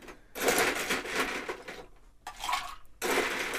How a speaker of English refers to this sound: Here goes the ice. I ice up our shaker. Fresh shaker this time.